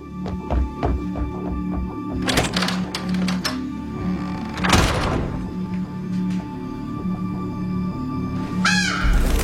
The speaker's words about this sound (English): Crow's a bit much, don't you think?